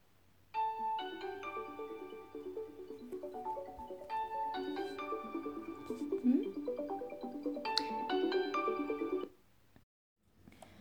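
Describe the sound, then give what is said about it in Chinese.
A melodic phone ringtone for an incoming call plays for about nine seconds, a bright repeating tune of chiming tones, fairly loud, then stops abruptly into near silence. “我正想打给你呢，今天怎么这么晚才打来电话呀？”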